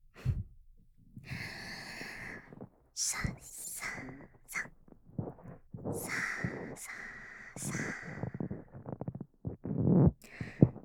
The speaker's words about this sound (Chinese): 这样的声音清晰又响亮，就像直接钻进头颅一样。我手中的鹅绒棒在你的耳膜附近轻轻的摩擦，